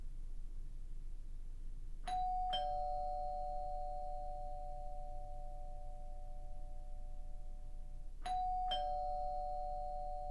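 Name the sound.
doorbell ringing repeatedly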